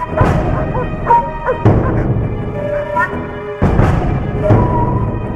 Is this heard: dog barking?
yes